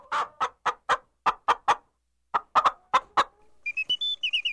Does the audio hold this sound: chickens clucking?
yes